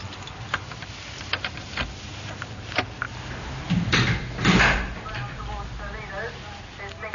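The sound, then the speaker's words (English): A door in South London opens with a few sharp clicks and a louder rattling swing near the middle as someone comes through it, over a murmur of indistinct voices and room noise. “Just as I get through the door, it hits me.”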